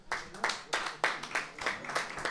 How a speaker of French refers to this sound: C'est très gentil, merci à vous, on peut les applaudir.